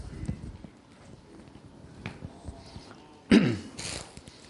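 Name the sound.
coughing and throat clearing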